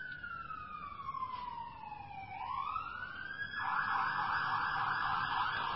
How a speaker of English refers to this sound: Just going to wait till the ambulance drives by.